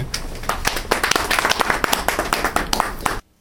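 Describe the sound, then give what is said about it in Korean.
A crowd claps in a dense, steady burst of many overlapping hand claps for about three seconds, fairly loud, then it stops abruptly into silence. “예 박수리요.”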